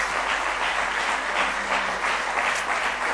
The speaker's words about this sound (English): Do you love Him with all your heart tonight? Give Him one more good hand clap of praise if you love Him.